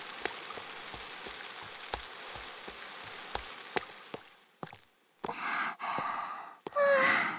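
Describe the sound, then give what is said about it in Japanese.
Steady rain hisses with sharp, distinct drops ticking through it, then thins out and gives way to heavy breathy gasps near the end, as people run through the rain to shelter at a bus stop. “あ、先輩、あそこ、あのバス停行きましょう。雨宿り。”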